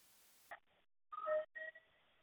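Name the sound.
fire alarm beeping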